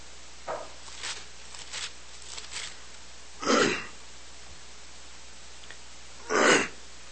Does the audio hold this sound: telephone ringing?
no